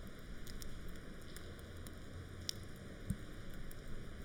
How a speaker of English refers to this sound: Oh, boy. It is pouring.